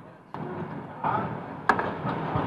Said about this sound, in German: Eine Diesellok vom Typ V200 übernimmt den Schnellzug.